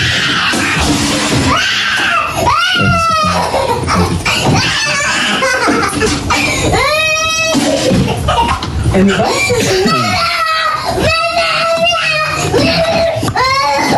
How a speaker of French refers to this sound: C'est une séquence qui date de la semaine dernière, du 5 septembre. C'est une petite fille de 3 ans qui pique une grosse colère, une grosse crise de pleurs.